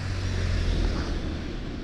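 vehicle, car passing by

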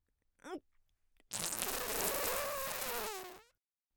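human body sound, loud fart

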